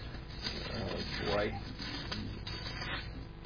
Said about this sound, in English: All this paper ruffling.